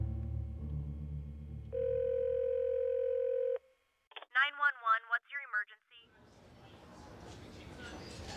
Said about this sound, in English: I felt my stomach lurch and my heart sink. I fumbled for my phone and dialed 911.